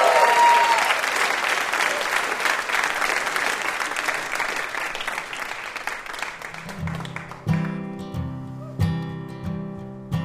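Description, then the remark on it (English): An audience claps loudly and steadily for about seven seconds, a dense wash of applause that fades as a soft, plucked musical intro begins with a few spaced notes. “Have a round of applause for our VIP”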